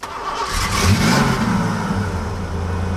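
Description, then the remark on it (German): A big car engine catches and revs up, roaring loudly with a deep rumble before settling into a steady, heavy drone, with no voices. “Die Amerikaner und ihre Autos, das ist ein ganz besonderes Verhältnis. Je größer und lauter, desto besser.”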